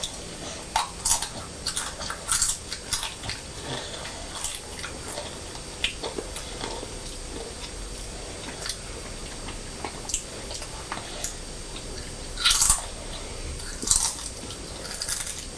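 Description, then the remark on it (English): Crisp crunching of someone chewing crisps, with irregular sharp bites and crackles scattered over a quiet background, a few louder crunches standing out near the end. “Sound very crunchy”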